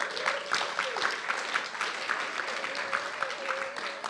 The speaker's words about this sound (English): We're thankful for his willingness to be here, and you can clap for him.